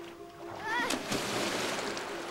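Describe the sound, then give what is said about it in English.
A heavy splash as a man falls into a river with his arms flailing, followed by a couple of seconds of churning, sloshing water. A brief tonal vocal sound rises just before the impact. “She watches him fall into the river, arms flailing.”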